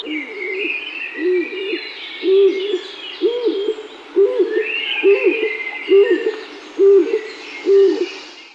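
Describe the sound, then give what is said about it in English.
A stock dove repeats a deep, intense coo about once a second, each note swelling into an almost two-syllable sound, with fainter birdsong chirping higher up in the background. “Stock dove, a coo so intense it almost has a second syllable.”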